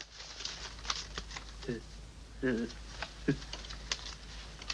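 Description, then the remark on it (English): Scissors snip through paper as a man in a nightshirt cuts out shapes of women carrying jars above their heads, with soft rustles and a run of small, irregular clicks. A few brief, low vocal murmurs surface now and then. “Then Jose is sitting in his nightshirt, cutting out shapes in paper.”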